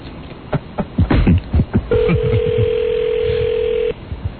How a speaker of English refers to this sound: Oh, but you got to pick up the phone. It doesn't seem to be answering.